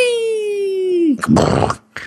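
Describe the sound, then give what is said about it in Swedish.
A cartoonish pig sound from the video game Angry Birds, heard when a pig is hit: a sustained tone sliding slowly downward, then a loud, harsh, raspy grunt lasting about half a second, with a brief sharp noise at the very end. “Förutom den här griseknaren där, men det är när du träffat en gris.”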